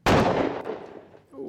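A single loud gunshot sound effect, used as a quiz buzzer, bursts out abruptly and rings off in a long, fading echo, followed by a faint voice murmuring near the end.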